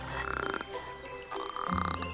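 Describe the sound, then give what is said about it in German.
A frog croaks in two raspy, rapidly pulsing bursts, each about half a second long, with a brief pause between them. The croaks are moderately loud and low-pitched. “Hör doch mal auf zu quaken, hallo.”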